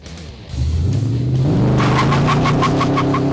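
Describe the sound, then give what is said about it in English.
A rebuilt Interceptor, the Mad Max car, roars to life and revs up as a ride begins, rising in pitch and staying loud as it pulls away, with a rhythmic rattling chatter over the throaty drone. “Well, you've seen it, you've heard it, how about we go for a ride?”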